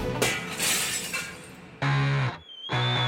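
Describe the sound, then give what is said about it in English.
Loud shattering crashes as trophies thrown onto the ground smash into pieces, a long opening burst of breaking debris followed by two more sharp smashes with ringing, glassy clinks in between. “stepdad was so furious, he picked up her precious trophies and threw them onto the ground, smashing them into smithereens.”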